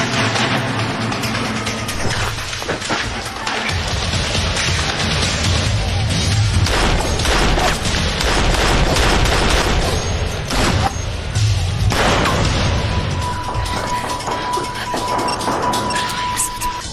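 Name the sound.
gunfire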